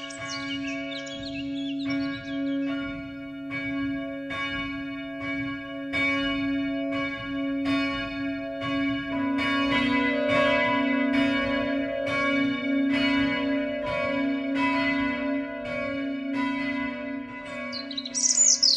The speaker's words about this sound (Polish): W licheńskim kościele dzwoniono na Anioł Pański.